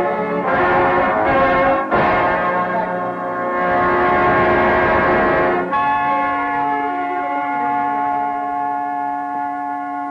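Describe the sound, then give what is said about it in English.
The Lutine bell on the floor of Lloyd's, which records the fate of ships of all nations, rings out in a few heavy strokes, its deep, sustained tone swelling and then lingering in a long, humming decay, with no voices present. “The lutein bell on the floor of Lloyd's, solemn recorder of the fate of ships of all nations.”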